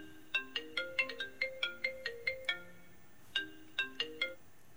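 phone ringing

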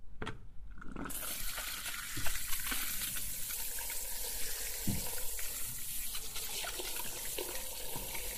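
running tap water

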